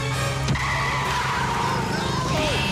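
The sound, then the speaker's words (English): An open lorry driven by Preston brakes suddenly, its tires squealing and skidding across the road over a steady engine rumble, loud throughout. “When Preston breaks suddenly, Wallace and the sheep are flung forward into the back of the open lorry.”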